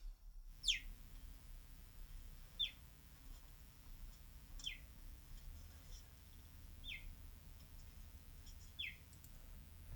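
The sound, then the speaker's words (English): A cheetah chirps five times, each call a short, high, bird-like peep sliding downward, spaced about two seconds apart over a faint hiss with no talking. “It was a cheetah.”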